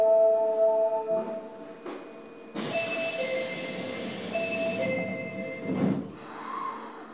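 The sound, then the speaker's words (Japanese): Steady warning tones chime on a platform at Senri-Chuo Station on the Osaka Municipal Subway, Japan, then the subway train doors slide shut with a rush of noise and a thump, followed by the rumble of the train pulling away. “まもなく千里中央駅の扉閉まります。扉にご注意ください。”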